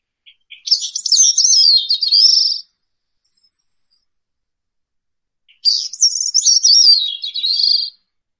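A Bicknell's thrush sings two separate phrases, each a thin, high, buzzy series of swirling notes lasting about two seconds, with a pause of silence between them; clear.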